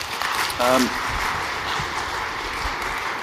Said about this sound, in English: Let's give these guys a round of applause as they come up.